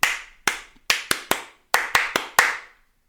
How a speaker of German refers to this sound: Das ist das andere. Das ist die andere dieser andere Klatschrhythmus, den ich jetzt noch nicht kenne. Wenn ich die beiden habe, kommt, ne, dann kann ich sterben. Das kommt von Ole, Ole, Ole.